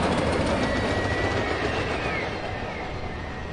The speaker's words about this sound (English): But certain things persist. I will always be lulled by the city's lurching trains. This is Adams and Wabash.